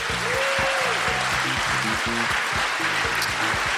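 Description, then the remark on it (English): A crowd applauds steadily for Melissa Benn and Holly Rigby, a dense, even wash of clapping that holds at the same loudness throughout, with low tonal sounds murmuring underneath. “And can we also give a big round of applause and a thank you to Melissa Benn and Holly Rigby, who joined us earlier on.”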